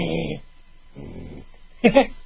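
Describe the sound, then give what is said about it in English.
A person imitates a low animal growl without moving their lips, two short, rumbling voiced growls, then a brief sharper burst at the end, all fairly quiet. “So I would growl.”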